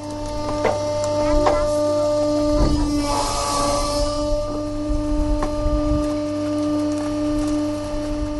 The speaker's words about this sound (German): Und hier ist so eine Presse. Ja, die sind besonders platzsparend, weil der Müll eben hinten reingepresst wird. Ich mach die mal an.